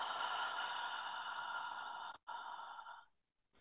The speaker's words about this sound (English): And take a slow, deep breath in through your nose and gently exhale through your mouth. Again, breathing in through your nose and exhaling through your mouth.